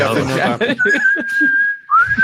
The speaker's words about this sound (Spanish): Oye, pues lo sigo usando con mucho éxito, ¿eh? O sea, el perro yo le hago ese silbido donde sí, esté, sí, claro. Viene como un loco y después con mi amigo lo seguimos usando.